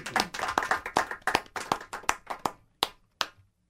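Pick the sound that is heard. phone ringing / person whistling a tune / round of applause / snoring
round of applause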